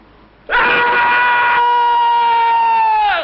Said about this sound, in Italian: E allora dalla pallacanestro prendiamo il grido iniziale, quello che fanno tutti insieme.